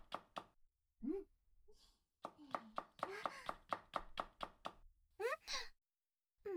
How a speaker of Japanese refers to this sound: 今日のご飯はとんかつだからね。あとは付け合わせのキャベツをトントントンと。